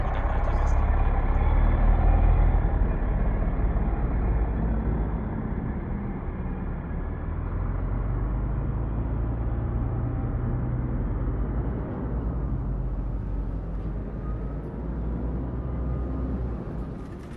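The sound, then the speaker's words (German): Dense, continuous roar of heavy street traffic on Kurfürstendamm in West Berlin, trucks and cars rumbling past, a steady low-frequency drone that barely lets up for the whole stretch, with faint indistinct voices mixed in. “Stimme der Menschen, Verkehr, massiv, Musikveranstaltung, Wassergeräusche”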